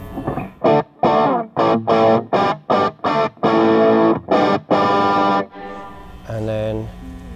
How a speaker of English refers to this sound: Just a generic crunch sound. So this is using the amp tweaker pedal.